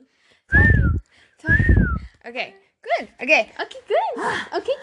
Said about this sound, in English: I can't believe I could whistle that well, by the way, because when I try to whistle for Dash to come inside, oh my God, it doesn't happen.